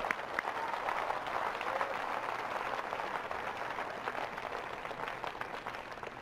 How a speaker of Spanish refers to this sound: Y el mérito es todo suyo. Todos los presentes les aplaudimos por ello.